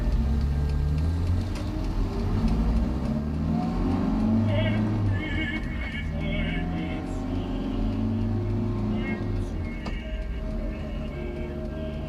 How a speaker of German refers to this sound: Als wir zum dicken Stein hinauffuhren, schlingerte der Wagen durch Spurrillen, die immer tiefer wurden, bis der schwernasse Schnee unter dem Bodenblech knirschte.